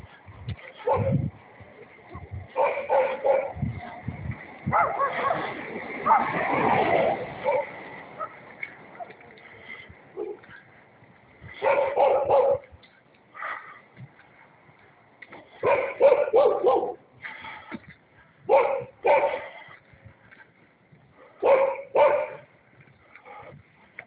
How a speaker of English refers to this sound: And here's our neighbor dog.